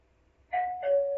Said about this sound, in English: If you heard the doorbell ring and you said, "Who's there?"